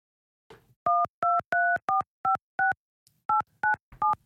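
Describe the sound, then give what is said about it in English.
Telephone keypad dialing: a quick run of six sharp touch-tone beeps, a brief pause, then three more, clear, with no one talking. “get off the phone. We're trying to... Who are you trying to call anyway?”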